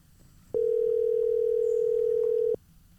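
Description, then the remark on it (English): A single steady electronic ringing tone from an outgoing phone call, one flat two-second burst, clear and fairly loud over quiet background hum, with no one talking. “Hear it ringing, you got it? Aye, it's ringing.”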